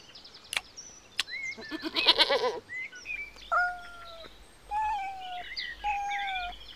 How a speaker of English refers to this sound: And that's Gracie, our goat.